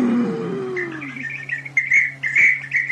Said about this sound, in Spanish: ¡Ah! ¡Es mi perico! Es que le platico siempre.